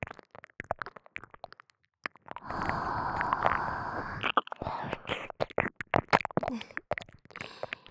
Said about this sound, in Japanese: お耳に熱い吐息を吐くと、お耳がゾクゾクしますよね。